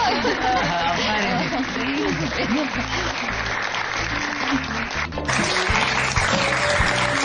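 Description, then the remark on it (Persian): Classmates clap steadily for a classmate whose exam score rose past 70 others, a dense, continuous burst of applause lasting several seconds, with a murmur of voices mixed underneath and a brief dip before the clapping surges again. “دوستتون رو تشویق کنین.”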